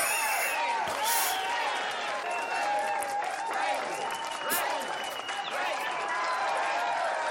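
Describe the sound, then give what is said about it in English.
A crowd in Cleveland claps and cheers continuously as a chef is introduced, a dense steady wash of applause with whoops and shouts rising over it, staying loud throughout. “What a crowd.”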